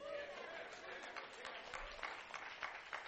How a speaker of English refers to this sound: I think that's most of the kids clapping right now.